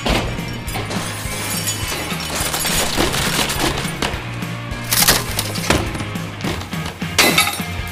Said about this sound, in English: Within seconds, all five members of the troop willfully tore apart the dressing room. They cleared off every surface, chucked furniture, broke glass and mirrors. 10 minutes straight, they wreaked havoc.